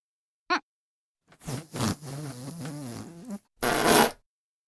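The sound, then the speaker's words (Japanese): A woman's short squeaky toot, then a long, loud, wavering fart lasting about two seconds, ending in a brief hissy, sputtering burst. Clear, with no talking. “お姉ちゃんがこんなにおなら出してあげたんだから”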